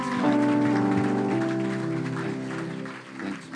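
An audience claps steadily to honor pastors for pastor's appreciation, a dense, continuous wash of hand clapping with sustained musical tones holding underneath; the applause stays loud throughout, dipping briefly near the end.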